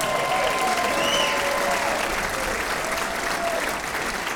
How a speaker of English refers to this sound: And he plays the bass, but he also sings. Sings great, man. I like his singing. Do you know what his name is? Look at that, she knows. There's an … fan right there. Let's give … a hand.